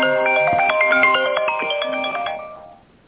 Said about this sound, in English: No, I'm sorry. That was my other phone ringing.